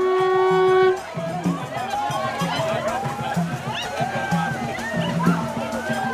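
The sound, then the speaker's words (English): A steady conch note sounds for about a second, then white-clad initiates enter a square water basin in the middle of a village during the souvenance ritual, with busy splashing and sloshing amid a clamor of excited voices and shouts. “Water is essential in the souvenance ritual, and as the conch is blown, the white-clad initiates enter the basin and seem to become possessed the minute they touch the water.”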